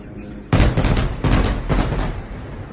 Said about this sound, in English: Ferwana recorded the sounds of explosions she's been hearing outside her windows.